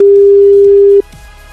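A telephone ringback tone from an outgoing call placed live on the radio to a listener: one loud, steady, clean beep held for about a second, then cut off, leaving quiet background with no voices.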